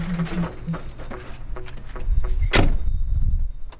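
A heavy truck rolls to a halt on arriving at the postal logistics centre in Vienna, its low engine rumble swelling before a short, sharp hiss of air brakes, then settling into a steady idle.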